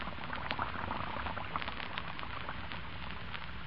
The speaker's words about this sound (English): First, you pour in a few flakes. Then Then you turn on the water. And almost at once, the flakes melt into a soft, frothy mass of bubbles. Listen to them.